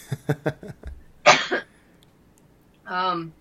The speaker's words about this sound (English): Well, I'll answer and say I'm going to cough from this cold, I'm afraid.